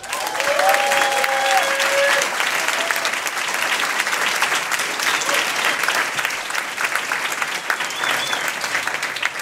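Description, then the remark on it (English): An audience applauds a panel of speakers, a dense, loud wash of applause that holds its level for the whole stretch, with a few faint whistles or cheers near the start. “Can I get a big round of applause for our panelists?”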